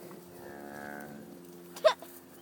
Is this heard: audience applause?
no